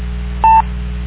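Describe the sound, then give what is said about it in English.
A single short touch-tone dial beep, someone calling a phone over a radio repeater, rings out clearly over the steady hiss and hum of a narrowband radio channel, lasting a fraction of a second before the static resumes alone. “Somebody's calling your phone there.”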